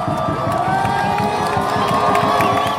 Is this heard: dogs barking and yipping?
no